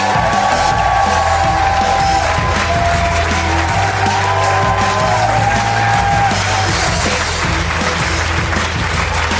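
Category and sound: crowd, audience applause and cheering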